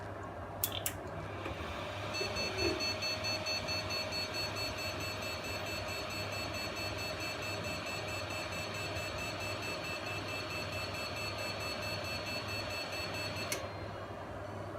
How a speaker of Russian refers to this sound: При включении компьютера у нас вот такая вот ошибка биоса.